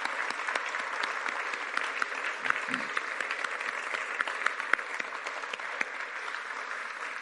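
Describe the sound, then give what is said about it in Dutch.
A standing church audience claps for God, a dense wash of many hands with scattered sharper claps standing out, holding an even loudness for several seconds without fading. “Zullen we eens even gaan staan en met onze tenen en met onze handen en alles wat ertussen zit, God een geweldig applaus geven voor deze liefde.”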